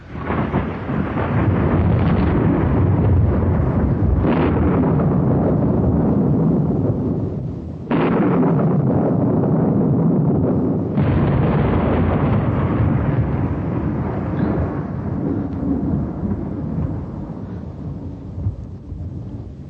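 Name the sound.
thunder rumbling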